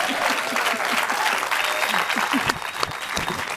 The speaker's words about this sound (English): Let's give her a hand.